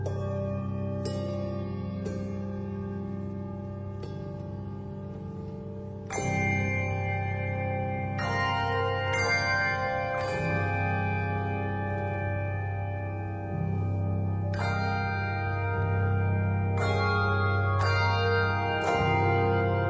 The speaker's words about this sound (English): This captivating and creative arrangement of the Native American tune brings the hymn to life in a unique way. The combination of bells and piano create wonderful colors and textures, while the narrator adds meaningful text.